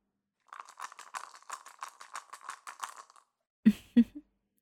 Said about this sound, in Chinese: 没有的话，我们就继续玩骰子吧。